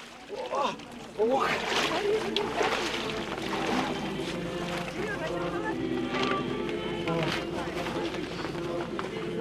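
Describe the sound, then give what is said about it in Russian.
Repeated splashes and sloshing water as people plunge three times into icy, blessed water in an ice hole cut beside a wooden chapel in freezing weather, with a few sharper bursts standing out over a steady background of crowd chatter and voices. “И несмотря ни на какие морозы, после освящения воды, осенив себя крестом, с радостью и благоговением люди трижды окунаются в ледяную освященную воду во имя Отца и Сына и Святаго Духа.”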